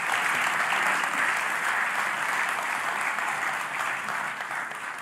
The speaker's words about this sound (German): Einen großen Applaus nochmal.